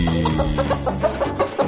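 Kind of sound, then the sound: animal, chicken clucking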